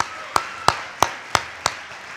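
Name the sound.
round of applause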